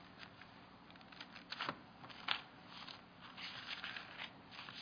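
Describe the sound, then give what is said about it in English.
A crowd of people turning Bible pages to find Isaiah 49, making a soft, continuous rustle and flutter of paper with scattered sharper flicks, with no talking. “I need pages turning. Come on, let's hear it.”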